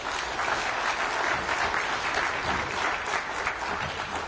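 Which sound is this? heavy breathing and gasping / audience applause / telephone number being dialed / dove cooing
audience applause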